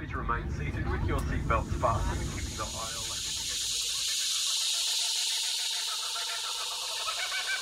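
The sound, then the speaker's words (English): A steady, shrill drone of cicadas on a farm at Picton on a long, hot, cloudless summer day fills the air, loud and continuous, with a voice talking over it at first before the insect buzz carries on alone. “Summer was when the property really came alive, with frogs and cicadas, blue-tongued lizards and red-bellied black snakes.”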